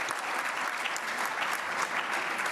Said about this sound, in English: you get another round of applause.